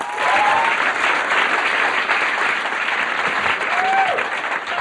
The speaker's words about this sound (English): Ladies and gentlemen, let's have a nice round of applause.